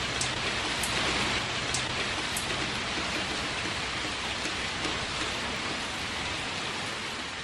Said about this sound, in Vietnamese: Hôm nay chúng tôi đã trở ra đường. Trời mưa tầm tã.